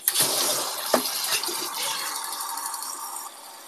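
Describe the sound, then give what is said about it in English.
Hot water pours steadily into a cup, a continuous hissing, splashing rush lasting a few seconds with a brief clunk near the start, then tapering off. “Let me just get some hot water going because I'm thirsty.”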